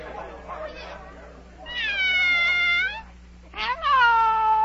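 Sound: cat meowing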